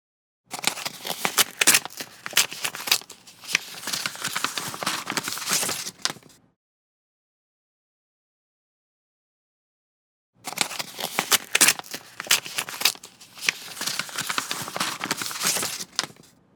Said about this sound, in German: Hier habe ich ein Briefkuvert aufgerissen, den Brief herausgeholt und auseinandergefaltet.